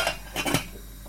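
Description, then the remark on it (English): A metal lid clatters onto a cooking pot of boiling water with rice in it, a few quick clinks and scrapes within about a second, then a low steady hiss continues. “So I'm going to throw in some rice into there. And then I'm going to cover that.”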